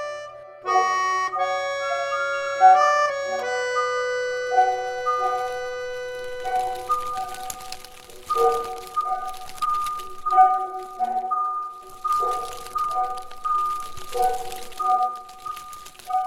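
Dry, crackly rustling of a dried leaf bush being flapped comes in irregular bursts, entering after several seconds of sustained melodic tones and continuing over the music at moderate loudness.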